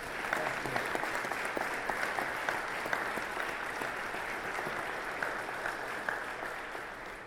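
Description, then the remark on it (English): Sustained applause from an audience fills the room, a dense patter of many hands clapping steadily for several seconds without any voices over it. “And so I think we owe a round of applause to a great leadership who has been very supportive of our entire military in Iowa.”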